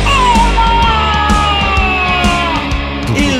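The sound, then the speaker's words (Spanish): A voice imitates a clown's loud, drawn-out, strained scream, holding for about three seconds with a wavering pitch that slowly sinks, no other talk around it. “Que brinca un puto payaso, quién sabe de dónde mergas, y me pega un grito de tipo...”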